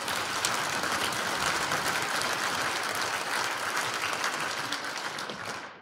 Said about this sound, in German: Warten Sie bis zum Schluss. Jetzt müssen Sie ja gleich bei jedem Punkt klatschen.